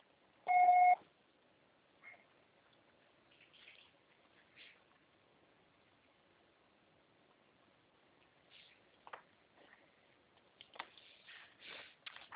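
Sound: voicemail recording beep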